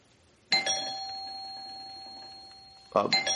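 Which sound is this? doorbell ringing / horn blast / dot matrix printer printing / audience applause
doorbell ringing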